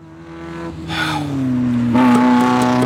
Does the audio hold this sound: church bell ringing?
no